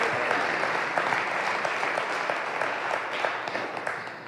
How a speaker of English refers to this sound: Give the Lord Jesus a big hand clap of appreciation.